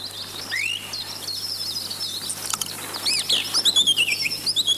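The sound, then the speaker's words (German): A lively chorus of small birds chirping and tweeting nonstop outdoors in a beer garden, overlapping high calls with a few louder trills near the end, over a faint steady hum and no talking. “Du, in mein Bier hat gerade ein Vogel reingeschissen.”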